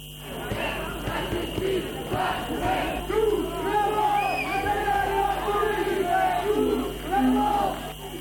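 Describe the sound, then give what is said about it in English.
Thousands of street protesters in Nantes, France, shouting and chanting together against a security bill banning the sharing of images of police officers, a dense, continuous roar of many voices with rising swells of yelling throughout. “Thousands of protesters have taken to the streets of the French city of Nantes to decry a controversial security bill that bans sharing the images of police officers.”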